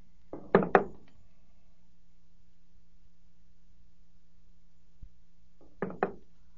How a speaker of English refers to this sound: In that case, please put your revolver on the table.